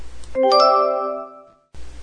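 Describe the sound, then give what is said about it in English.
A doorbell chimes with two quick ringing tones that sustain and slowly fade over about a second, clear and fairly loud, with no talking over it. “No one makes cookies like Grandma, said Mom as the doorbell rang.”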